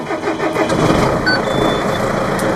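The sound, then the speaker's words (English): A large farm machinery engine is started at an agricultural training session near York, east of Perth, turning over and rumbling into a steady, loud idle with a broad mechanical roar and faint high whines on top. “So when you're ready, we can fire it up.”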